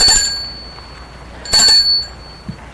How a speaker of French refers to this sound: L'homme va arrêter sa voiture devant une maison qui se trouve au boulevard des Belges. Sort de voiture. Et sonne au portail.